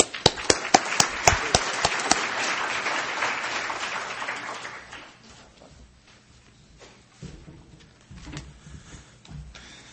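An audience at a conference bursts into applause welcoming a speaker to the podium, dense clapping that swells for several seconds, then thins and fades away, leaving scattered claps and faint room noise.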